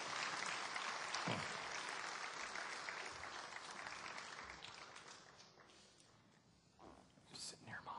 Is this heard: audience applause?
yes